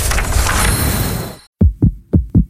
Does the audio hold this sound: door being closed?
no